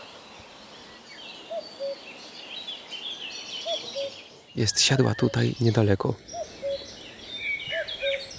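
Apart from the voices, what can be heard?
common cuckoo calling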